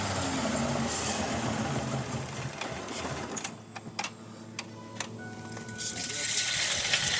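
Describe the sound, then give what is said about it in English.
A hydrogen-fueled truck engine chugs loudly and steadily after a valve sends hydrogen into it, then is shut down after a few seconds, leaving scattered clicks and a low hum before a broad hiss swells back up. “Like, after he throws the valve to send hydrogen into the engine, it runs for a little while, but then he has to shut it down.”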